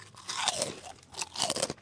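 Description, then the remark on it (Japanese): Crisp kame senbei (turtle-shaped Japanese rice crackers) being crunched in two bursts of brittle, crackling bites, each a rapid cluster of sharp, dry snaps with a moment of quieter chewing between them; no one speaks. “最近の亀せんべいはあれよね、”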